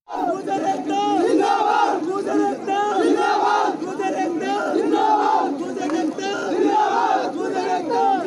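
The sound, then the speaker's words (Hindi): A crowd of Gurjar protesters camped on roads and railway lines, demanding 5% reservation, chants slogans together in loud, rhythmic bursts, many voices rising and falling in unison without pause for about eight seconds. “गुर्जर आंदोलनकारी इन मार्गों पर पड़ाव डाले बैठे हैं और नारे बुलंद कर रहे हैं।”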